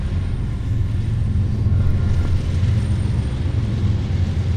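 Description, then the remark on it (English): A train rolls by with a steady, heavy low rumble that holds at an even loudness for several seconds, with a faint hiss above it and no voices. “There's a train running now.”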